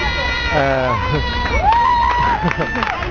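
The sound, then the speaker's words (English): A crowd cheers and shouts from a balcony above, on an occupied building with an Ocupa banner, with rising whoops and excited voices blending into a steady, lively roar that carries on throughout. “Just some cheering from the balcony up there.”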